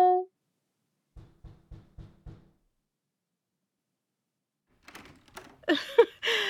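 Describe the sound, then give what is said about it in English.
A person knocks on a door with their forehead: five dull, evenly spaced knocks thud in quick succession, fairly soft and low. After a pause, louder rustling and clattering noises follow. “I literally had to knock on the door with my forehead.”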